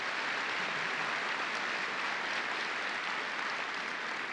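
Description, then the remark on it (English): A crowd breaks into spontaneous applause, starting before the speaker has finished his sentence, a dense wash of many hands that holds at an even loudness for several seconds without pause or voices. “And I'm going to tell him about the spontaneous applause before I even finish, you people.”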